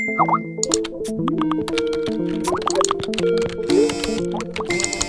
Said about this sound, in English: It's a constant thrum of notifications, tweets, and messages.